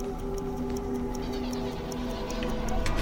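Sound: clock ticking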